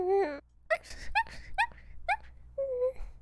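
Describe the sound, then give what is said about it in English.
A person dressed up as a puppy imitates a whimpering puppy with a string of short, high, tonal whines, about five quick yips in a row followed by a longer drawn-out whimper, fairly loud. “I can be a cute puppy too.”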